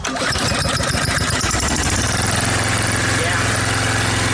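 A lawn mower engine sputters with uneven chugs, then settles into a steady, loud running drone that continues to the end.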